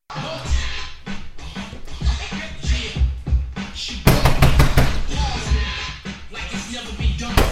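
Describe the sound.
A quick burst of loud, sharp knocks on a door, five or six raps close together, with muffled voices and background noise running underneath.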